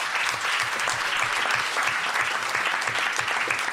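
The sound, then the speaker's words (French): Steady audience applause after a columnist's segment fills the whole stretch, a dense wash of many hands clapping at an even, sustained loudness with no voices standing out. “On peut applaudir, monsieur Fibre.”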